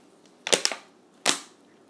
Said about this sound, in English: Sorry, I'm drinking this water and it's just keeps crackling, whatever.